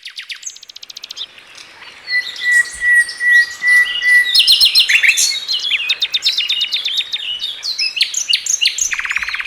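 Several wild birds chirp and sing together in a busy, overlapping chorus of bright, high trills and quick tweets, fairly loud, with no voices.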